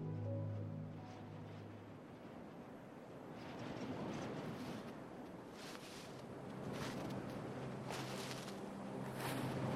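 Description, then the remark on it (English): A steady rush of wind over a completely frozen ocean fills the scene, with scattered sharp crackles and snaps of ice breaking through more often toward the end. No voices are heard. “Perhaps you can just hear the wind and the crackling of ice.”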